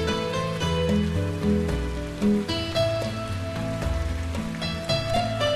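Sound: rain falling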